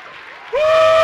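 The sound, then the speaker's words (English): An audience claps steadily, then a loud, sustained high-pitched shout rises over the applause and holds for the rest of the moment. “My God, come on, somebody, if you can't dance, shuffle your feet. Clap your hands. Shout unto the King.”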